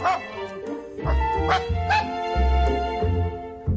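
A dog barks repeatedly in short, bright bursts, fairly loud, with a few higher yips mixed in among the steady run of barks.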